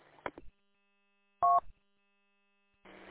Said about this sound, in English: I had a quick phone call, and I just pushed it to ignore.